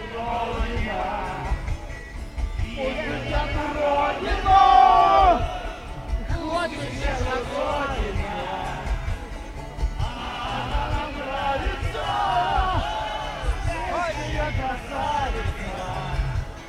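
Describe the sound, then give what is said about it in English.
A large crowd at an opposition protest in February sings an 80s anthem together, many voices blending into a dense, steady chorus over a rhythmic thumping beat, swelling louder for a moment before settling back into the song. “it took just seconds for the crowd to join in.”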